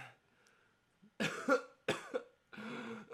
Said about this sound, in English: Stop coughing! How many times have I told you that coughing during our conversations will not Dad, be acceptable?